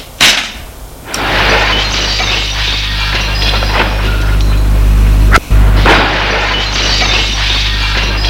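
A sharp crack of breaking glass as a woman smashes a window pane with a dilapidated chair, then a sustained loud clatter and crunch of shards, with another abrupt smash partway through before the rattling debris continues.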